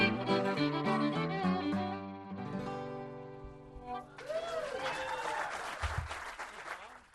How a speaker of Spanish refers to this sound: Aplausos del público entregado.